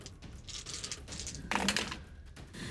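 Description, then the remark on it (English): Small dice clatter and tumble across a hard tabletop during a tabletop role-playing game in a quick run of sharp clicks, with a louder rattling burst midway before settling down, rolling two tens in a row. No one speaks. “Just rolled two tens in a row.”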